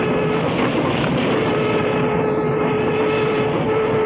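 A commuter train rolls steadily along the rails, a loud, continuous rumble with a faint steady whine running through it, unbroken for the whole stretch, with no voices.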